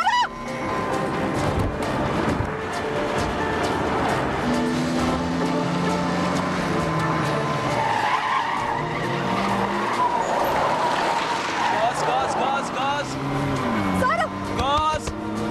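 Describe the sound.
A car engine revs up repeatedly as the driver presses the gas, its pitch climbing as it accelerates, with tires squealing and voices talking over the loud motor noise.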